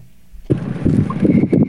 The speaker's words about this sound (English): I'm out on my little runabout.